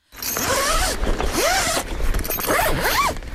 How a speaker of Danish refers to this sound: Når man hører en lyd, som bare sådan får en til at tænke på, hvor dejlig sommeren er. Jo. Og jeg kom til at tænke på her den anden dag, lyden af, at man lyner et telt.